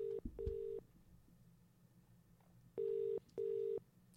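telephone call ringing through

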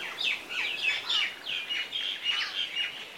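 birds chirping

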